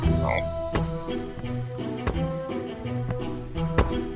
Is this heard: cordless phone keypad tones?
no